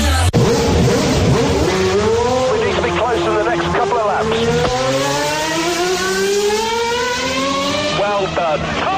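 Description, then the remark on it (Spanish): Loud roaring car engines rev and accelerate continuously, their pitch climbing and sweeping as they rush past, filling the whole stretch with a racing-style drone, introducing the motor section of the Deportes COPE sports programme. “Rugen los motores de la sección de motor.”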